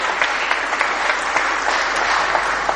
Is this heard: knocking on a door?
no